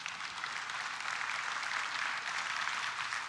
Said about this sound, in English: You can clap for that.